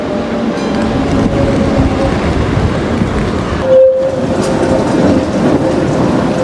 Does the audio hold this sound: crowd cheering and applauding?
no